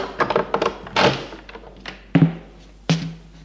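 Knocking on a door: a quick cluster of muffled raps, then two heavier, spaced-out thuds with a low, hollow resonance. No one speaks.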